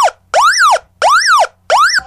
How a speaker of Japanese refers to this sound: それから、上部の左の方にモード切り替えスイッチがございまして、今はラジオモードになってるんですが、そのスイッチを右へ切り替えますとサイレンモードになります。